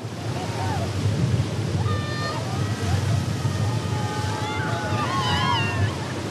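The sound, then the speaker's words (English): Steady roar of ocean surf washing in continuously, with faint voices calling out over the crashing waves, as people in business suits splash in the water and environmental activists throw a massive life ring into the surf. “The spectacle consisted of a group of people dressed as negotiators in business suits splashing around helplessly in the water as a group of environmental activists throw a massive life ring into the surf.”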